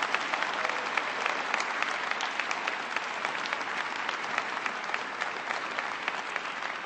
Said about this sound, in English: They did an outstanding job, and they deserve A big round of applause.